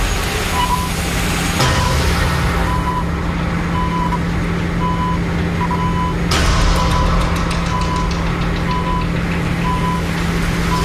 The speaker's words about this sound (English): And the beeping stopped, so we're cool. I'm happy.